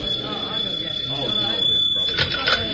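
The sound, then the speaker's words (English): A telephone rings with a steady, shrill high-pitched tone that runs throughout, while people talk over it in a murmur of voices; the call is from the Homicide Bureau for the Lieutenant. “Hello? Just a moment. For you, Lieutenant, the Homicide Bureau calling.”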